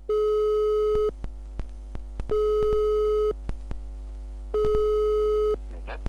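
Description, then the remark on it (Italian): A telephone line tone before a phone call to Tommaso Montanari: three long, steady electronic beeps of about a second each, evenly spaced with short pauses and faint clicks between, heard clearly with no one speaking. “Montanari scrive l'articolo e all'indomani riceve una telefonata.”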